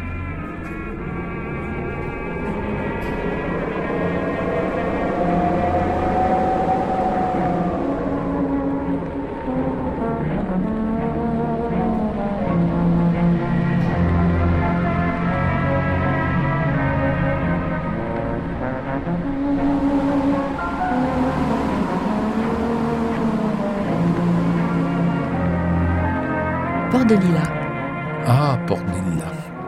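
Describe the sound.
Paris Metro station ambience at the Lilas station: a steady wash of humming, whining train motors with shifting tones, indistinct voices murmuring underneath, and a brief hissing burst near the end.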